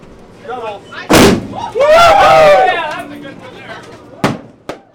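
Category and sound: sound effect, fireworks exploding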